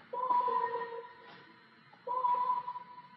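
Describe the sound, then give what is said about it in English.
Two bursts of a steady, electronic-sounding tone drenched in reverb, each lasting about a second and leaving a faint lingering wash in the gap between them. No one speaks. “Oh, the reverb. Where's the spinning do? Adds more reverb.”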